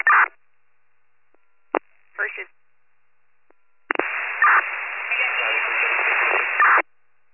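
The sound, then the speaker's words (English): Bursts of harsh radio static: a short crackle, a sharp click, another brief hiss, then a long steady wash of band-limited noise lasting about three seconds before cutting off abruptly. “That's all static.”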